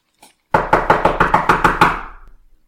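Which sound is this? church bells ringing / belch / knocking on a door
knocking on a door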